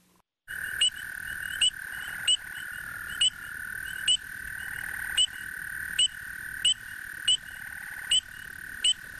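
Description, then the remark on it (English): A dense chorus of spring peeper frogs keeps up a steady high-pitched trill, while one louder, piercing peep rings out at a regular pace, roughly every second, with no voices. “That's that peeping sound of the spring peeper that sounds like a beep sound.”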